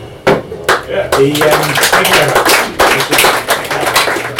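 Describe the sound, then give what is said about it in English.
An audience at a poetry reading claps steadily for several seconds, a dense patter of many hands, with a few voices faintly mixed in early on. “I like people, this is a strange request, but if I like people to clap at the end, because if they only like one poem and they have to save that to the end, it sounds like it's gone down an absolute storm.”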